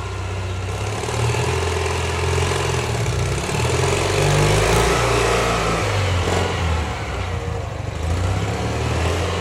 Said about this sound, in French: Et là, c'est la deux chevaux. Voilà.